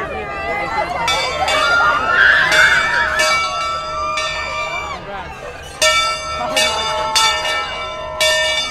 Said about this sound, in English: make a run for the old railroad bell. It's the last thing that the kids do as a class together. I think it's a higher sound to me, maybe mid-range. Like a kind of a high ding, and then ding, ding, and then echoes. It's pretty loud. It's pretty loud.